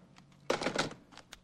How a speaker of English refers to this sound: Vince rips the piece of paper from the pad and slowly straightens